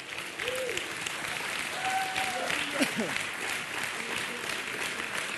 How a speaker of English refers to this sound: We're going to give you another hand clap just because you came.